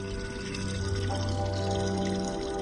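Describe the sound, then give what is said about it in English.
Water pours steadily from a tap or spout of a public borehole into a container in Mbare, a poor, crowded suburb of Harare, Zimbabwe; a continuous splashing stream with a low hum of surroundings, no voices. “Marjorie Sande manages this public borehole in Mbare, a poor and crowded suburb of Zimbabwe's capital city, Harare.”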